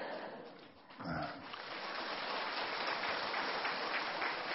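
An audience breaks into steady applause after a brief pause, a dense crackle of many hands clapping at once that swells quickly and stays loud and even to the end.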